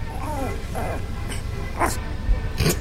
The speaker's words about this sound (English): That works. Those are like dogs.